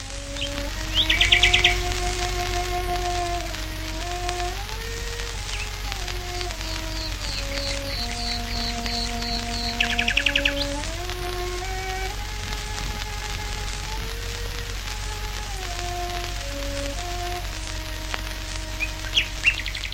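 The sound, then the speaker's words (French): Nightingales sing in a few short, bright bursts of trilling over a slow, sustained cello melody played by cellist Beatrice Harrison in her garden at Oxted, Surrey, broadcast live by the BBC in May 1924, all beneath a steady low hum and faint crackle like an old recording. “Ainsi, en Grande-Bretagne, où un samedi de mai 1924, vers 22h45, la BBC avait interrompu ses programmes habituels pour diffuser en direct un duo entre un violoncelle et un groupe de rossignols.”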